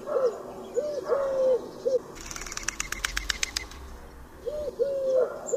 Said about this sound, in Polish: Startując do lotu, sierpówka, podobnie jak inne gołębie, klaszcze w powietrzu skrzydłami. Głos ten powstaje dzięki uderzeniom skrzydeł nad tułowiem ptaka.